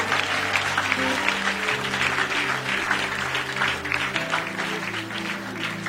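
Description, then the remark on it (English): An audience breaks into sustained, dense applause as a clap offering to the Lord, a steady wash of many hands clapping for several seconds, with a sustained low musical tone holding underneath. “Why don't you give the Lord a big clap offering?”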